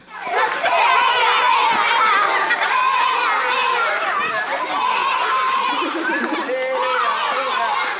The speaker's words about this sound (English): The next one we'll see is a video of the kids playing